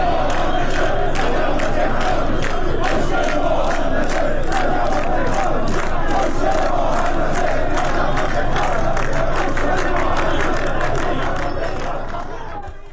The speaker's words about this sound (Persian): آنها از جمله شعار دادند معیشت مناسب حق مسلم ماست و خسته ایم از وعده و دروغ، نه از آتش و دود.